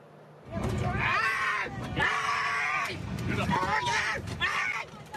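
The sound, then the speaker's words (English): A man screams and yells in loud, strained bursts, several cries in quick succession, with a noisy commotion of other voices around him, as security officers drag him off an overbooked plane in Chicago. “A man selected at random was dragged screaming off the plane by security officers.”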